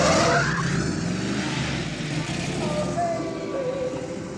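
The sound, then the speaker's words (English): Cars race from one traffic light to the next, engines revving hard as tires screech and skid across the pavement in a loud, continuous burst of noise. “and they do sort of like a test run from light to light.”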